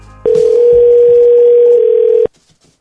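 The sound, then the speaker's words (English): A telephone rings once, heard from the caller's side as a single loud, steady two-second electronic tone that cuts off abruptly, with only faint low rumble around it and no talking. It is an outgoing prank call to a gym customer. “Here's some phone calls to gym customers.”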